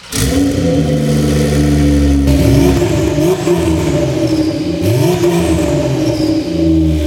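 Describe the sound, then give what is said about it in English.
A sports car's exhaust revs loudly, the engine climbing and dropping in pitch through several throttle blips with a raspy, rumbling tone and no voices. “My favorite part are these crazy looking exhaust tips that sound even better.”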